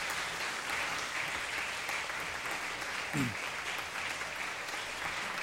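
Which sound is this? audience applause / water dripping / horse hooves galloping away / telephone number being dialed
audience applause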